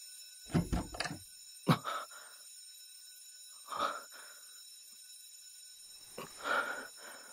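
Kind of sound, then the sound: signal or alarm, alarm ringing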